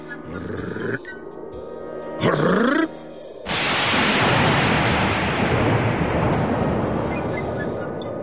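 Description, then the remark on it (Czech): A loud, deep rumble of thunder breaks in and rolls on steadily to the end, after a quieter opening with a brief wavering, rising-and-falling tone. “To je mi příčas, hrom do toho. Hrom.”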